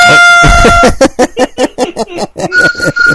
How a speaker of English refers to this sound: That sounded almost like a horn. I like that, man.